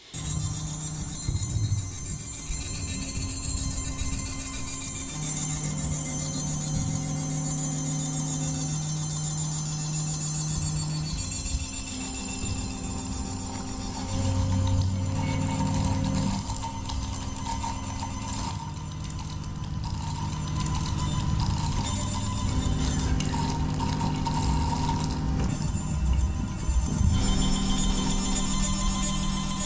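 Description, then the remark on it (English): A fluidic shift register using salt water runs on its own, memorizing one bit of information at a time, with small glassy clinks and ticks at intervals as each bit is memorized, over a steady, layered mechanical hum with a faint watery texture, no voices. “And it makes a sound each time a bit is memorized.”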